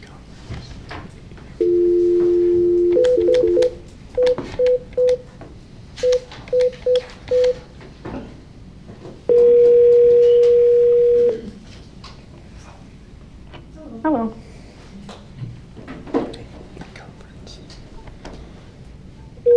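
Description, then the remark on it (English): A steady two-tone phone dial tone sounds for about two seconds, followed by a quick series of short keypad beeps, then another long tone, as a caller is being added to a call; faint background noise and brief sounds follow. “you're just going to be put on hold for a second”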